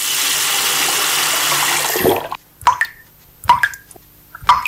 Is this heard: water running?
yes